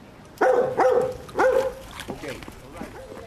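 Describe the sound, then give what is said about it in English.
A dog barks three times in quick, uneven succession, loud, followed by a few softer, fainter yelps trailing off. “Jane Chambers went to meet him and asked him how he decided to cast a dog as his leading lady.”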